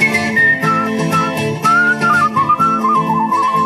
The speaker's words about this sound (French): qui siffle délicatement des chansonnettes de sa composition.